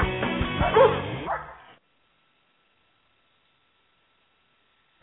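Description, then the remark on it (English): Several sled dogs, huskies, bark and yip together in a loud, excited chorus for under two seconds, then the sound cuts off into silence. “Mosh, you Huskies! Gee-haw!”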